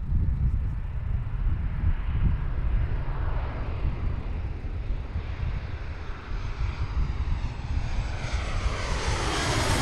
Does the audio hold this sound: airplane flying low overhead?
yes